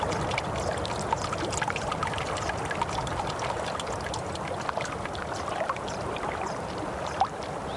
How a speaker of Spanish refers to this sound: Esa agüita que corre es agua limpia, pues.